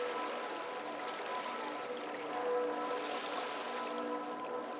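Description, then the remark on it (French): Steady watery wash of dark river water flowing and gently lapping against the stone foundations of a palace terrace in a city, with thick fog over the quarter; a continuous soft rushing with faint splashes, even throughout, with no voices. “Le cours impassible de la rivière semble indifférent à la folie meurtrière qui s'est emparée de la ville et de l'Europe entière.”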